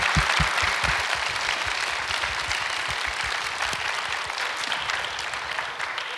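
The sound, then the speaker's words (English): A crowd applauds the panelists steadily, many hands clapping in a dense, continuous patter that stays loud and even for several seconds with no voices over it. “Would you give a round of applause for our panelists today?”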